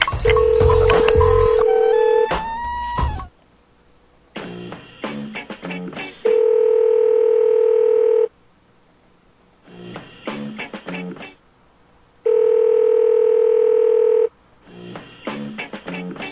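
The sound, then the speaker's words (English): A telephone line sounds a steady electronic dial tone in three long, evenly spaced bursts, with quick dialing beeps and clicking handset noises at the start and between them. No one speaks. “I don't think I hung up the phone up.”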